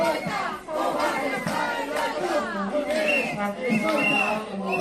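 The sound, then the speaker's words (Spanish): A crowd of neighbours in Martinete protesting for safer roads, shouting and chanting together in a loud, continuous roar, with rising and falling cries layered over a steady babble, demanding the humanization of the two provincial roads crossing Martinete. “Se han concentrado para pedir la humanización de las dos carreteras provinciales que atraviesan un Martinete, que acumulan 5 accidentes en lo que va de año.”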